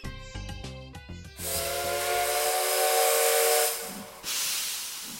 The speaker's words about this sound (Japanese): さあ、汽笛の音が、 はい、 はい、 なりましたね。 なりましたね。いよいよエンディングですね